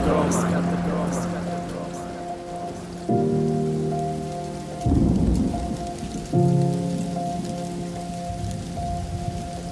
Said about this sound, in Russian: Июль под раскаты грома.